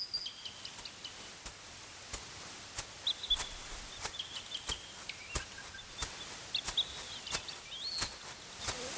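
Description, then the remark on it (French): Birds sing in the woods, thin high whistling notes drifting in and out, while sharp clicks and snaps crackle throughout. No one speaks. “Le sol est couvert de fleurs et les oiseaux n'arrêtent pas de chanter.”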